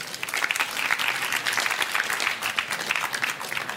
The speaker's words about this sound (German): Und ich stelle hier vor Professor Stefan Lessenich und sein neues Buch Grenzen der Demokratie, Teilhabe als Verteilungsproblem, erschienen bei Reklam. Ihr Applaus für Stefan Lessenich.